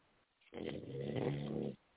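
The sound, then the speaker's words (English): A single loud, rasping snore drawn out for just over a second, rough and throaty with a low buzzing rattle, standing alone against near silence. “Who was that sleep? The hell snoring?”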